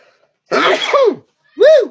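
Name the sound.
sneeze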